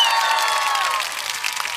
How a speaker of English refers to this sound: Hey, you guys hear me? Stop cheering now!